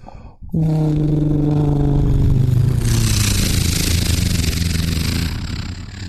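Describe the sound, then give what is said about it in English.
A voice imitates a World War II Hurricane fighter flying past about 100 meters away: a loud, sustained buzzing drone with a steady harmonic pitch that slowly drops, roughening into a hissy roar before easing off. “That was a hurricane going by about 100 meters away.”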